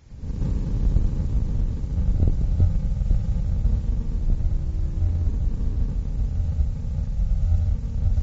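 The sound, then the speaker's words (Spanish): A deep-sleep brain wave recording of delta waves turned into sound: a steady, very low rumbling drone with a few faint tonal hums drifting through it, continuous for the whole stretch with no voices. “Son ondas muy graves, como puedes escuchar.”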